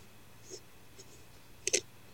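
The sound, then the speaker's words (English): Faint scrapes and small taps of a microphone being handled, spaced out over a quiet background, ending in a sharper double knock that is the loudest moment. “Oh, is that me fucking around with my mic?”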